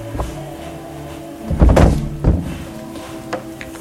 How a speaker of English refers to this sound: That's the door, by the way. It does sound dreadfully, I've no idea. It sounds like...